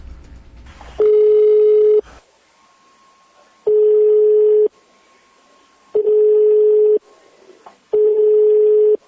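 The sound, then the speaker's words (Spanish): A telephone ringback tone sounds four times, each a loud, steady buzz about a second long with pauses between, as a call to a municipal councillor goes unanswered. No one speaks. “Así ha estado el teléfono desde que se conocieron estos audios”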